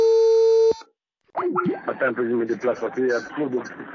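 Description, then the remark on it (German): A steady telephone line tone hums for under a second as a call is placed and cuts off abruptly, then after a brief silence a voice starts talking, sounding thin as if over a phone connection. “Wie immer telefonieren wir, so oft es geht.”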